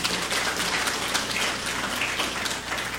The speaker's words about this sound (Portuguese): A todos ele uma grande salva de palmas.